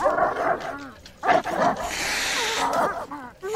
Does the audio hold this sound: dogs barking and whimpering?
yes